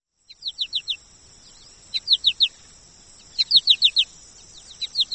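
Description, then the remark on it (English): American goldfinch potato chip chirping in a marsh: repeated quick bursts of three or four bright, descending chirps, with short pauses between groups and no voices. “Listen for their potato chip chirping.”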